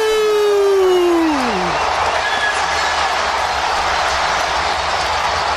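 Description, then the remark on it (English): A huge stadium crowd in Atlanta erupts in a loud, sustained roar of cheering after Younghoe Koo's 58-yard game-winning field goal for the Falcons. It follows a brief falling tonal cry at the start, and the roar holds steady and dense to the end. “Listen to the crowd there in Atlanta.”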